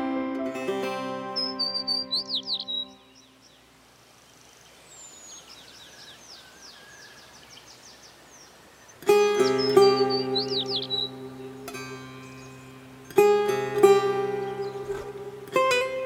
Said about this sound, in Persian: گهگاه گنجشکا میخونن با چیک چیک نافتو.